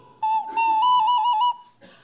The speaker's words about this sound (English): and lately he's been playing this wonderful ocarina, and it's always a delight.